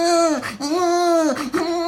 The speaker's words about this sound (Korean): 존 켄티의 집 골목길에서부터 아기의 울음소리가 들렸다. 바로 오늘 존 켄티의 집에서 한 사내 아이가 태어난 것이다.